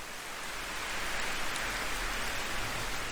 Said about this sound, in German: Dieser Ort, an dem du bist, schützt dich vor dem Regen und lässt gerade so viel Geräusch und ganz sanften Windzug zu dir dringen, dass du spürst, dass du mit der Welt verbunden